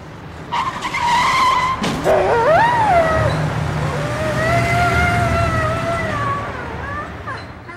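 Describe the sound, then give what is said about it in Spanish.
A car's tires screech in a long, loud skid on a street and end in a sharp thump as it hits a dog crossing the street, followed by the dog's high, drawn-out yelps and whimpers that waver on for several seconds. “Hoy intenté cruzar la calle por donde pasan los coches y uno me atropelló.”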